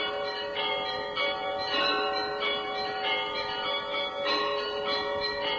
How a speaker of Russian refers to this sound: Благовесть, только это колокол восьмитонный, лебедь. Благовесть – это призыв на молитву, а потом звон перед службой и звон после службы.